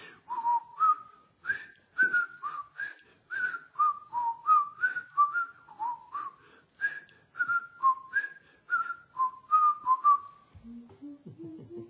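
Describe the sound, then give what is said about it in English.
A person whistles the bouncy, familiar theme melody of a 1960s TV show, clear rhythmic notes in a steady tune for about ten seconds, ending with a few lower notes. “let's see if I whistle it. I'll see if I can whistle it.”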